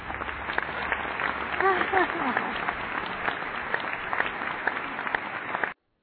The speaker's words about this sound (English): As a matter of fact, since it's your first time being on the air, I want to do something and make it real special for you. I'm going to give you an applause because there's more to come.